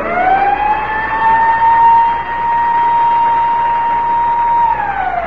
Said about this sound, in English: Whenever you hear the siren bell, think of Texaco.